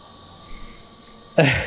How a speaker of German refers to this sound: Jetzt sind die Grillen am Start, aber kriegen wir hin. Warten mal kurz ein paar Sekunden, ob das aufhört.